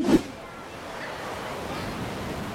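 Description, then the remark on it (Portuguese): Steady rushing surf washes over a beach at Florianópolis, a broad hiss of breaking waves that swells slightly toward the end, opening with a brief sharper burst. “¡Ay, Diego, mira ese mar!”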